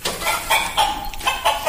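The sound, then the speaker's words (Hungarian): A hen clucks in a quick series of short, nasal calls, about five or six bursts in a loose rhythm, fairly loud with no talking. “Tyúk. Nagyon jó.”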